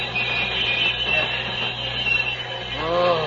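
A train rumbles loudly while its brakes let out a sustained, high metallic squeal, with a brief wavering screech rising near the end as it is brought to a stop.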